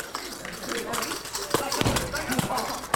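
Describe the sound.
A metal ring taps against a metal goalpost, giving a few sharp, bright clinks at irregular intervals over a steady noisy background with faint voices.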